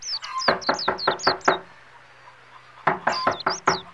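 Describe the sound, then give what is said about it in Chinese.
Two quick bursts of loud knocking on the wooden door of the only inn in a small village after sunset, five or six firm raps each, separated by a short pause, with no voices. “店家，开门开门，招呼客人。”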